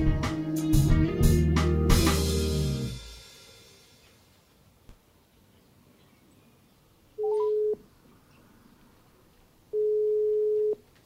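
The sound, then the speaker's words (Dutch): A loud burst of music fades out, then after a pause two steady telephone ringback tones sound before the call is answered, each about a second long and spaced a couple of seconds apart, with no talking. “Jij zat al klaar bij de telefoon, begrijp ik.”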